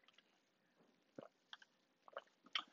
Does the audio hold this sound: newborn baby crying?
no